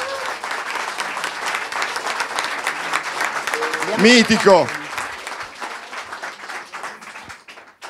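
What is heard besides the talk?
audience applause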